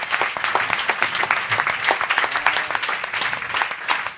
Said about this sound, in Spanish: Las traductoras también se van a ir, pero también se lo han estado currando durante todo el día y molaría también un aplauso para ellas porque así lo hemos podido seguir todo.